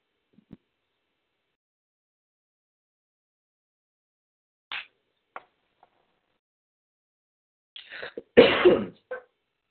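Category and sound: human body sound, coughing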